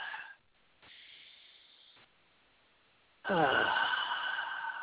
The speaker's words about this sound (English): Ah, let's take a deep breath.